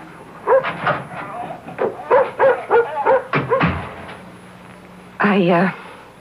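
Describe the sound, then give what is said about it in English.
A dog barks and yips in a quick run of short, sharp calls, followed after a brief pause by a longer, drawn-out whining yelp. “may I take the dog down to the beach?”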